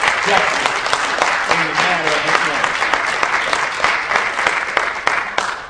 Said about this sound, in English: Now, that is because we're here with it, with our sleeves rolled up, and I want you all to give yourselves a big round of applause for the school.